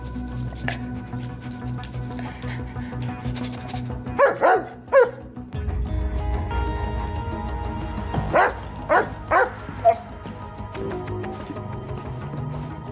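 dog barking

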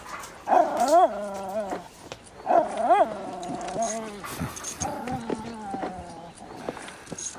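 dog barking and whimpering

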